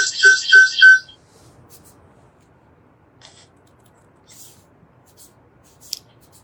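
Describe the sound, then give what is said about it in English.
A phone ringtone chirps out three or four quick, bright electronic pulses in the first second, then cuts off, leaving near silence broken only by a few faint clicks. “you need to mute your phone.”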